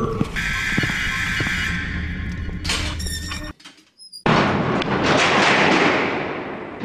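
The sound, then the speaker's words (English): A loud, drawn-out creaking and squealing door, grinding harshly for several seconds, breaking off briefly with a thin high squeak, then scraping on again with rough noise. “Would you fix the stupid door already?”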